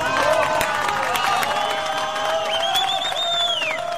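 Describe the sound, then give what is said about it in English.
Family members and rescuers break into steady, dense applause as the first rescued miner steps out of the Phoenix capsule at a mine in Chile, with overlapping voices cheering and calling out throughout and a high rising whoop near the end, loud and unbroken for the whole stretch. “As he stepped out of the Phoenix capsule, his family and rescuers broke into applause.”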